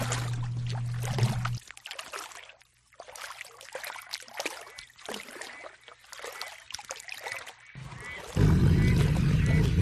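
Water pours and trickles in uneven, splashy bursts, with a steady low hum underneath at the start and a louder rushing surge near the end.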